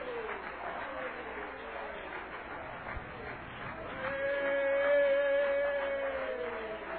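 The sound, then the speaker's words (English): An audience claps steadily for several seconds, a dense, even wash of applause with voices mixed in, and a sustained musical tone rises underneath partway through as the clapping swells. “Well, let's give him a good hand of applause tonight.”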